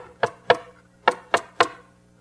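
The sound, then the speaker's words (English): A neighbour knocking on a back door: two sharp raps, a short pause, then three more, each crisp and fairly loud over a faint steady hum, with no voices. “She knocked the door, and I struggled to open the door and saw her.”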